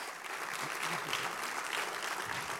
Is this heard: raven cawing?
no